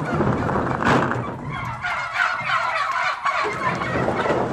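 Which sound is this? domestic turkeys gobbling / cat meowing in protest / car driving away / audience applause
domestic turkeys gobbling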